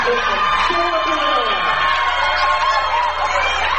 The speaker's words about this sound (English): Entering the game for Alder is Sarah Brand. She gets a big round of applause.